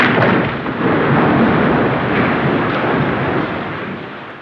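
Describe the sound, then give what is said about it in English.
The glass roof of the Crystal Hall crashes and shatters onto the stage in a loud, continuous roar of breaking debris that lasts several seconds before easing slightly at the end, with no voices. “The stage of the Crystal Hall was covered in broken pieces of glass.”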